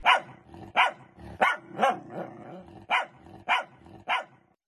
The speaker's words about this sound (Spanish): Dice que es el perro del 302.